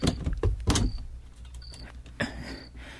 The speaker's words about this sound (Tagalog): ako munang bubuksan tong pinto bago ko lumabas para matiyak na walang pulis sa labas.